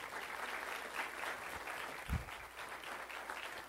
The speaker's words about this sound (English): Y'all agree with that? If you do, give her a round of applause.